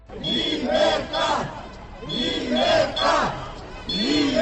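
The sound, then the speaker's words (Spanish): About 100 protesters, parents and teachers, chant in unison in front of the Puerta de los Leones of the Congreso, protesting against a law, repeating a short slogan in a steady rising-and-falling rhythm, about every two seconds, in a festive mood. Loud, massed voices with a little cheering. “Alrededor de unas 100 personas se han congregado durante las últimas horas frente a la Puerta de los Leones del Congreso para protestar contra esta ley.”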